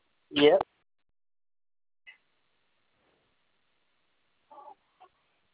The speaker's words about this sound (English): Yeah, they're just hanging out together now, and there's a little bit of clucking going on, but they're just hanging like near the Barbie, and she's just going towards her and just trying to go and give her a good peck once or twice.